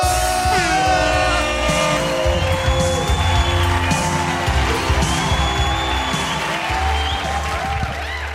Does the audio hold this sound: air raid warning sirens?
no